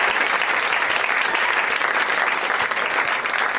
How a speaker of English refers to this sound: At this point, everyone applauds.